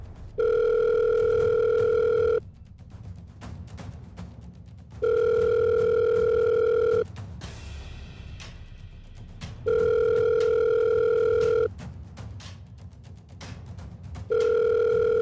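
A telephone ringback tone purrs in steady two-second bursts separated by pauses of a few seconds, repeating about four times, clear as if heard through a phone earpiece, while a phone call is being placed.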